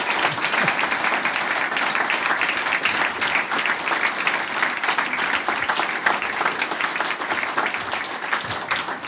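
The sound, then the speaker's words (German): Sustained applause from an audience, a dense, steady wash of many hands clapping at a loud, even level for several seconds, with no voices standing out, for the Brandl family folk music group receiving the Harmoniker Award from the Harmonikerverband Österreichs for folk music groups in Styria. “Ich denke, das hat sich einen Applaus verdient, liebe Familie Brandl.”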